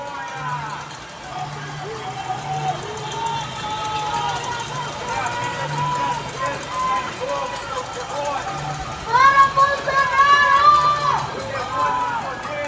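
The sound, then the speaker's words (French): A crowd of many people stuck at home shouting and yelling in protest from windows across neighbourhoods, overlapping in a dense, sustained roar, swelling into louder, higher-pitched cries about two-thirds of the way through. “C'est comme un grand écho de voix de gens qui sont coincés chez eux et qui protestent.”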